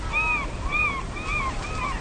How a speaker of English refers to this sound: One of the recordings has gulls in the background, and so you're hearing these really obnoxious gulls. They're really loud.